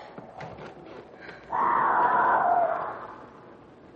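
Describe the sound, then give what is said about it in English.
A cougar screams: a single drawn-out, shrill scream rises suddenly, holds loud and harsh for about a second and a half, then fades, over a low background hiss. “That's a cougar.”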